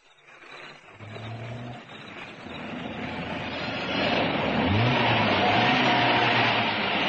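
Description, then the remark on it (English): A police car engine rumbles and grows steadily louder outside a gate, a broad motor roar with low humming tones, like the vehicle pulling off and driving away. No one speaks. “are dropped by a police car outside the gate.”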